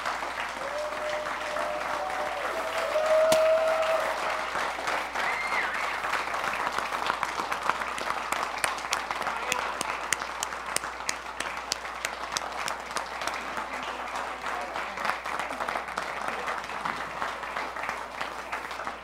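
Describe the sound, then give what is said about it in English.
A worship service audience applauds steadily for nearly twenty seconds in thanksgiving for people coming to the front to receive their pens, a dense wash of many hands clapping at an even loudness, with a brief higher tone sounding early on. “And now, let's give these folks an applause that expresses our thanksgiving for them.”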